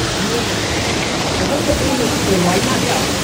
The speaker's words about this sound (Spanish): Y los dejo con el agua.